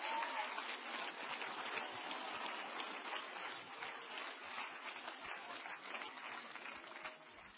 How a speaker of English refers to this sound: Somebody clap your hands to Him.